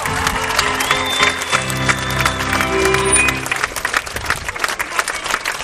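An audience breaks into sustained applause, a dense, steady patter of many hands clapping for several seconds, with some murmuring and a low hum underneath early on.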